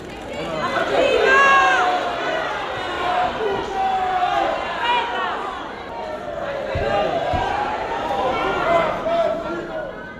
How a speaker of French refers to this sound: Devant chez elle, la foule a appris la nouvelle et l'attend pour crier sa haine.